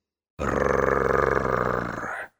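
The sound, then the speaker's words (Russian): A low, throaty creature growl a few feet away rumbles loudly and steadily for about two seconds, rough and gravelly, then cuts off abruptly. No one speaks. “Он осторожно нащупал кругляш гранаты, но в этот момент справа от него раздался низкий горловой звук, перекрывающий все остальные шумы, проникающий прямо под кожу и в кости.”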